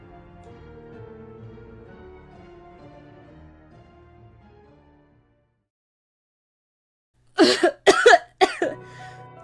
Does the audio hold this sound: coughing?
yes